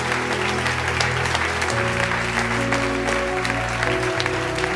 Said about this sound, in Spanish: Si le va a aplaudir, apláudale fuerte a Jesús, a la palabra de Dios.